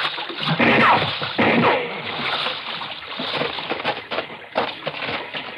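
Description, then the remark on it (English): Continuous watery splashing and sloshing, fairly loud, with irregular surges as someone wades heavily through shallow water, carrying a wounded person on his shoulder out of the water; no clear speech. “Look, just lay over on my shoulder and I'll carry you out of the water.”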